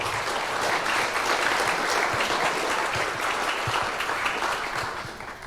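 Sustained audience applause, a dense steady patter of many hands clapping at an even loudness, tapering slightly toward the end with no voices over it.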